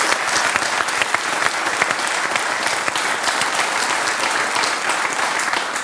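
Steady audience applause fills the whole six seconds, a dense, even wash of many hands clapping at moderate loudness, with no voices standing out above it.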